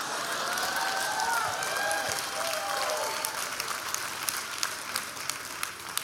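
A crowd applauds in a dense, steady wash of clapping, with high sliding whistles over it at first; toward the end it thins and individual sharper claps stand out.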